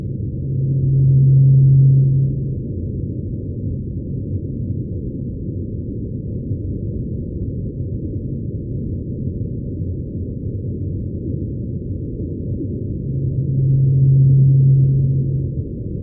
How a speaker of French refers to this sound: Alors, vous allez voir, ça ressemble beaucoup à la baleine antarctique, mais c'est juste la première note. Et puis, c'est répété comme ça aussi pendant des minutes et des heures.